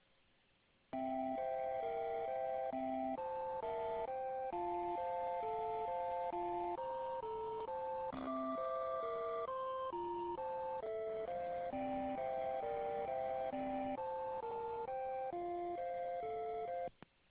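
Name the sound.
telephone hold music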